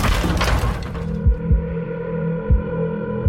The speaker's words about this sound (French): Les pompiers enfoncent la porte.